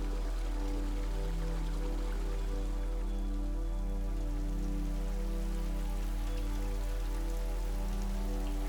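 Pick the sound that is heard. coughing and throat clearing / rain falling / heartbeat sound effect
rain falling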